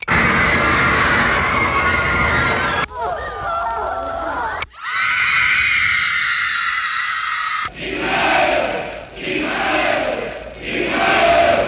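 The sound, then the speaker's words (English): A loud, dense crowd roars and shouts, played from a record on a screaming machine meant to replace a teenage audience; a continuous wash of voices cut abruptly into several different segments, some with rhythmic surging swells, like edited recordings spliced together. “Whoops, wrong crowd.”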